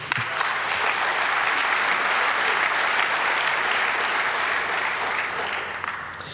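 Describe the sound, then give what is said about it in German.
An audience claps steadily, a dense wash of many hands at a constant loud level that eases off slightly near the end, with no voices over it. “Und ich finde, das ist eigentlich auch ein Applaus wert.”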